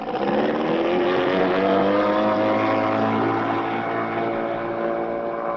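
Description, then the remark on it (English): An amphibious car motors across a lake, skimming the waves with its fenders floating like a catamaran; its engine is a loud, steady droning hum with a slight rising pitch, continuous throughout, with no voices. “We're skimming the waves and we're having a ball”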